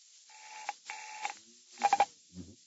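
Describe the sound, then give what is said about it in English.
Two short buzzy tone bursts of a telephone ringing tone sound over the line when calling a Bayswater number, followed by a few sharp clicks and a brief low rumble, all fairly quiet with no talking. “It's ringing anyway.”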